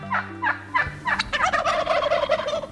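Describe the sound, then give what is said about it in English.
A hefty four-foot male wild turkey with a dark, densely feathered body and bare neck gobbles in a loud, rapid rattling burst, a descending cascade of throaty, bubbling notes that runs for a couple of seconds with no one speaking. “Take a close look at a male wild turkey, if you dare.”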